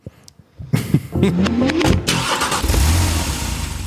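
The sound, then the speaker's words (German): A car engine starts and runs, heard from inside the vehicle with people sitting in it, with a rising whine as it revs before settling into a steady, loud low rumble. “Wir sitzen jetzt im Auto.”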